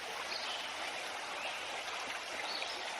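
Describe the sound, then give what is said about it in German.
A steady, continuous babble of a small forest stream flowing over stones and larger rocks, forming tiny waves, even throughout, with a bright hissing texture and no voices. “Das Wasser tanzt über die Steine und größeren Felsen. Während das Wasser um die Steine und Felsen fließt, bilden sich ganz kleine Wellen.”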